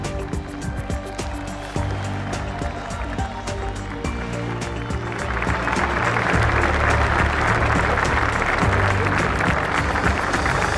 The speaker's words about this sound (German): So, meine Damen und Herren, und jetzt will ich nochmal alle Hände sehen und will euch nochmal alle hören. Ein riesen Applaus für die fünf historischen Dreier.